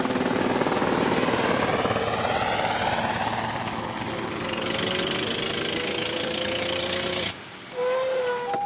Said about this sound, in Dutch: De lijfwachten van meneer hier zijn er ook al vandoor. Daar gaan ze, in meneers mooie helikopter.